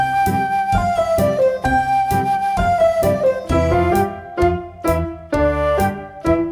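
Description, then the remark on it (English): White piano keys played softly in a steady, even pulse, a simple melody stepping over low sustained chords, with no voices. “Will you play some white keys softly, please?”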